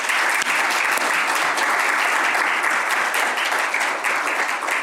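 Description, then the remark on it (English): Sustained audience applause for the students of Great Lakes, recognized with awards by the town of Lincoln, a dense wash of many hands clapping at a steady, loud level throughout without pause or talk breaking through. “So give them all, well, give the students a round of applause right now.”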